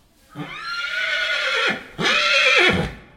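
A horse whinnies twice in quick succession, loud, each call a long harmonic squeal that rises and then drops away, with a brief gap between them, at the Centre équestre Cavalcade equestrian centre in Beaurain.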